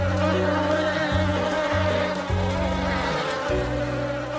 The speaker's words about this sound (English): There's about 4 or 5 queens already in the attic. If anything, I'd consider myself more of a modern-day Noah's Ark, but for approximately 160,000 bees.